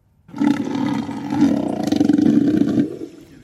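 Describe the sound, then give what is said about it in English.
A southern elephant seal lets out one long, loud, guttural roar, throaty with a pulsing rattle, lasting a few seconds before cutting off abruptly. “They're relying on a group of southern elephant seals.”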